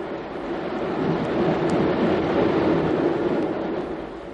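A special train rushes steadily through a station without slowing, a continuous loud rumble and roar of rolling wagons with faint rattling, holding a sustained, even level throughout.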